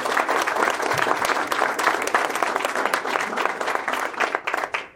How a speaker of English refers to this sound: So let's give another round of applause for our candidates. Also, let's give a round of applause to the chamber and the hospital.